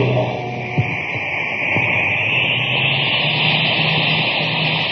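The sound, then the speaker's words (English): A cosmic surface car's engine, supercharged with super fuel, roars steadily: a loud continuous rumble with a hissing upper edge and low hum that holds even throughout, with a faint tick or two early on. “Boy, that cosmic surface car is really roaring now.”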